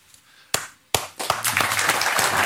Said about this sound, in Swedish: Det är alltså en spontan applåd som bryter ut av Henrik Jönsson.